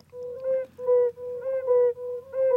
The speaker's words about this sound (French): Ce sont des crapauds que l'on entend. Oui, des crapauds sonneurs à ventre jaune. Ce sont des jolis petits crapauds. Alors, on n'est pas au bord d'une mare, mais tout simplement au bord d'une ornière